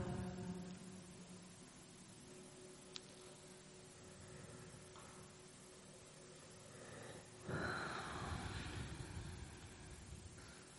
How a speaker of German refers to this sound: Ja, wenn hier gegähnt wird, ist einfach, wie die Energie hier durchfließt beim Loslassen.